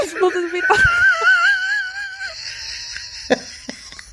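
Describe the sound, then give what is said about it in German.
A person lets out a drawn-out, wavering whimper, a high quivering wail for about two seconds that sounds like exaggerated mock crying, followed by a few soft sniffs and clicks. “Jetzt muss ich wieder weinen.”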